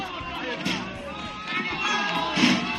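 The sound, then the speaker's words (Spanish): Irregular dull thuds of turnips, thrown by residents, striking the colourful carbon-fibre costume and striking African-style mask of the Jarramplas character, several in quick succession, over the steady roar of a crowd with voices talking and shouting throughout. “Este sonido es el de las verduras impactando contra el colorido traje de este personaje, también contra la máscara muy llamativa al estilo africano.”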